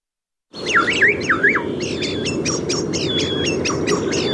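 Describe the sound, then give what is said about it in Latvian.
A common starling sings, a busy run of whistles, rising-and-falling slurs and rapid clicking chirps repeating over a steady noisy background hiss. “Lai pētītu putnu ligzdošanas un migrācijas paradumus, Latvijas ornitoloģijas biedrība par 2025. Gada putnu izvēlējusies mājas strazdu.”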